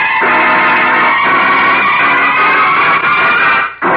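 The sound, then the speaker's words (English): A car engine roars loudly and steadily as the vehicle pulls away, a dense, continuous rumble that holds for several seconds before briefly dropping off near the end. “Get this car rolling.”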